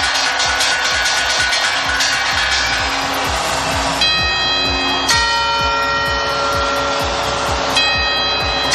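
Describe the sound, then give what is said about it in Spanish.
The Puerta del Sol clock, whose bells have rung for 158 years: a rapid run of chiming carillon notes and the quarters give way to several loud, ringing bell strikes of the twelve New Year's chimes, with long sustained overtones, over a steady noisy background with rhythmic low thumping. “Así volverá a sonar el carrillón, los cuartos, las 12 campanadas que podrás vivir aquí en la cadena COPE.”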